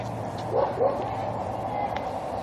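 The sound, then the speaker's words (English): A dog behind a fence gives two quick, sharp barks close together at an 80-pound black lab being walked past, over a steady low hum of outdoor background noise. “Needless to say, the dog behind the fence took umbrage.”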